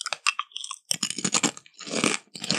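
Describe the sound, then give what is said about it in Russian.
Crisp, crackly crunching of potato chips being chewed, with several bursts of brittle crackling separated by short pauses, loud and without any talking. “Чипсы очень звучные.”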